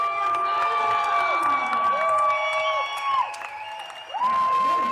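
A crowd cheers loudly and continuously during a lip-sync performance while one audience member screams high and sustained above the rest, with shrill whoops and excited shouting filling the whole stretch.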